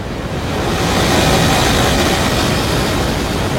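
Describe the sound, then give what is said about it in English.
A loud, steady synthesized roar of jet thrust, a broad rushing noise that swells slightly in the first half second and then holds constant with a dense, hissing texture. “That's the thrust part of the engine.”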